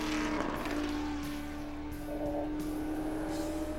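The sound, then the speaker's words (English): A 427 Ford V8 engine in a 1960s endurance race car roars at about 7,000 RPM while being driven around the Watkins Glen track, a loud, steady drone with a strong humming pitch and slight fluctuations in throttle, with no voices present. “Nothing sounds as sweet as a 427 Ford at 7,000 RPM.”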